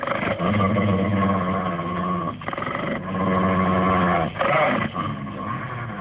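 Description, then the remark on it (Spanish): A dog, Lucifer, snarls in a long, deep, continuous growl as it prepares to attack, loud and rumbling, with brief breaks for breath before the menacing sound resumes. No one speaks. “Lucifer prepara el ataque. Brillan los filosos colmillos y sus ojos son como relámpagos.”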